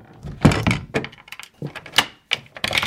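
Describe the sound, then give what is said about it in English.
A key scrapes and turns in a door lock: a series of sharp metallic clicks and rattles, followed by a heavier thunk as the bolt shifts. No voices. “He turned the key in the door.”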